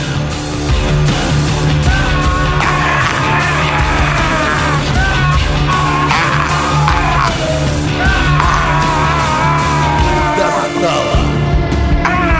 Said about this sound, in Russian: Здесь специальные чайки такие кричащие есть в этой отбивочке.